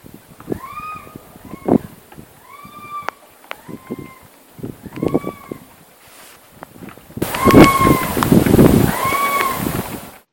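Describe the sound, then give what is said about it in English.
A vixen (female fox) screams repeatedly in the middle of the night, about five drawn-out, harsh, high wailing cries spaced a second or two apart, the last two louder over a rougher background hiss, with no talking. “That is actually... a vixen scream, if I'm led to believe correct.”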